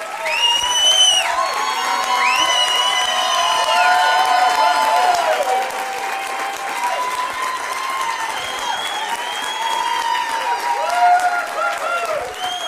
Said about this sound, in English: All the claps and applause.